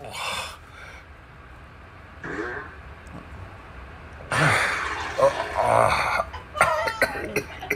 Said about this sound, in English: But there's also a subgenre of these men who just lay down in their bed and fart. This is a kink, right?